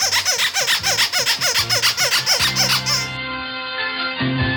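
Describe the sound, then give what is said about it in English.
A squeaky rubber duck toy is squeezed over and over, giving about a dozen quick, loud, rhythmic squeaks. It ends in a longer, lower, wavering squeal. No voices. “Big Fatty, I think Squeaky Kitty's pissed at Squeaky Ducky.”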